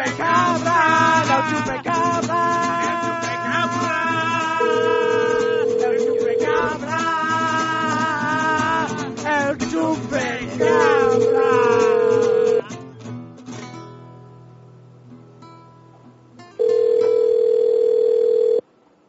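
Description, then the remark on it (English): An outgoing phone call to a cafe rings on the line: three steady ringback tones, each about two seconds long with long pauses between, heard over a busy background of music and voices that fades out. “We're going to call the Greasy Spoon Cafe”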